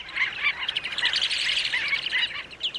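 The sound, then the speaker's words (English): A dense chorus from a cluster of shorebirds flying together in a loose, three-dimensional cloud: many high, thin chirps and peeps overlapping continuously with no pauses, steady and moderately loud throughout. “One is a cluster, lots of shorebirds flying together in a loose, three-dimensional cloud.”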